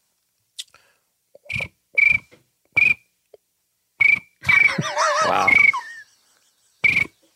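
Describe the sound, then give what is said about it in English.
A person imitates a cricket with a series of short, sharp chirps in an irregular rhythm, then a longer warbling burst of whistly trills, followed by a brief exclamation. “But I think my cricket is the best. Let's hear your cricket.”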